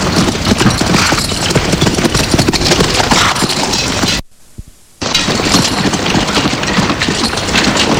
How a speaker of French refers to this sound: Le garde veut voir un messager pour amener le message. Et le messager part à cheval de nuit.